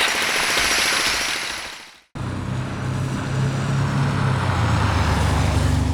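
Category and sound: ambience, construction site noise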